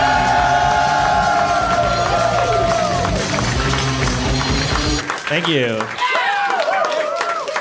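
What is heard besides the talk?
audience cheering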